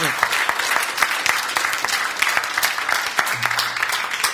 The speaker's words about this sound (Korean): 그게 이 말이야, 박수!